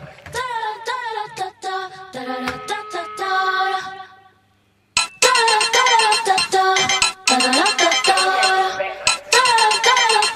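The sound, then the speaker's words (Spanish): A phone call waiting to be answered, with a loud melodic ringback tune playing steadily on the line, briefly dropping to silence midway before resuming. “Por favor, venga, a ver si me lo coge.”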